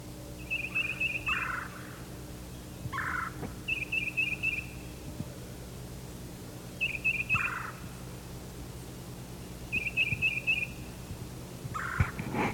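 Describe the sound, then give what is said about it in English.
Bird calls trade back and forth from the north: four short, rapid trilled bursts spaced a few seconds apart, each answered by a lower, rougher note, over a steady low hum with no talking. “Now the exchanges are coming from the north. Probably one of the birds that just left his tree.”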